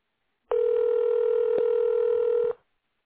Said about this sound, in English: I called you back because it went click, and I thought, I don't want him to think I hung up on him. So, yeah, I think the phone just went dead.